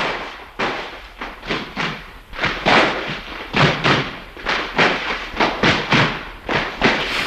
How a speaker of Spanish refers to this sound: Entonces, claro, tú probablemente... todavía sin nacer, tu sonido era este taconeo, que está recuperado de la peli de Saura.